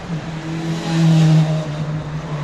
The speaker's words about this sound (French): Là, ça fait plaisir ça, d'entendre ça. Une bonne moto comme ça. Ça fait plaisir ça. Hein, au moins, là, il se fait plaisir le monsieur.